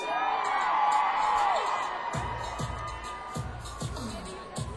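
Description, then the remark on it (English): A crowd of women at a concert screams and cheers loudly on cue, many high-pitched voices overlapping in a sustained roar that eases after about two seconds into scattered whoops and shouts. “Ladies, are you ready? Scream!”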